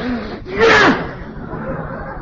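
A single sharp, loud sneeze from a man, who has a cold, bursts out, a quick breathy intake followed by a hissing, voiced explosion that fades within a second, over a faint low background murmur.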